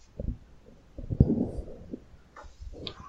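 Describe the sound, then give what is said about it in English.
A cat named Cosmo purring in low, rough rumbling bursts that swell and fade unevenly, with brief quiet gaps between them and no voices. “Somebody was purring. Oh, yeah. Now we can hear it.”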